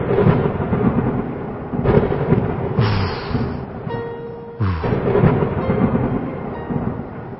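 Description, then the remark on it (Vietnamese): Loud, continuous thunder rumbles in a storm with growing wind, dark clouds and lightning, swelling into heavy crashing peals at a few points, with a brief whistling tone midway and no voices. “Gió bão càng to, mây đen kéo mù mịt, trời tối sầm, sấm chớp nổi lên âm ầm.”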